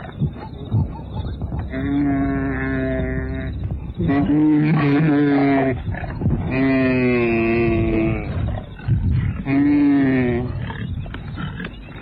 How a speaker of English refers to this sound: She charges. The rest of the herd scatters, and one wildebeest turns to escape the lioness. As he moves too slowly, the lioness jumps up at his flanks and brings him down. She's biting, scratching, tearing away the flesh.